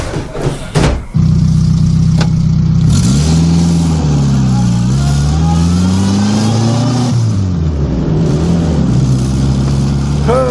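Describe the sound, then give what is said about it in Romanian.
A car engine cranks and catches, settling into a steady idle before revving up as the vehicle accelerates, with the engine pitch rising and falling. “Nici nu-mi vine să cred că în sfârșit cineva m-a luat în mașină.”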